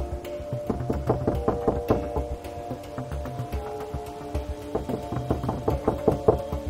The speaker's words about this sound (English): Jeff peers in the window and knocks.